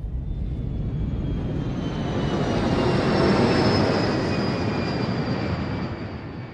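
A jet airliner, Cactus flight 1549, takes off from runway 4. Its engines roar loudly and steadily, swelling to a peak midway with a high turbine whine on top, then easing slightly as the aircraft powers away. No voices.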